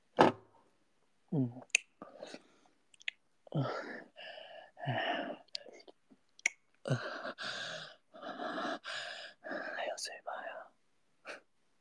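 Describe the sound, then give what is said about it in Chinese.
Breathy gasps and heavy panting come in repeated bursts with short pauses between them, soft and airy like whispered exhalations, with no clear words. “你的喘息好淫荡啊！”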